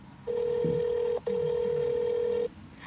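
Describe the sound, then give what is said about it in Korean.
A telephone ringback tone on a call to the car insurance company, Hana Insurance, for help after the car's battery suddenly died: a steady electronic hum that holds for about a second, breaks very briefly, then continues for over a second before stopping. No one speaks. “일단 자동차 보험회사에 전화를 걸어 도움을 청하기로 하고 보험회사에 전화를 합니다.”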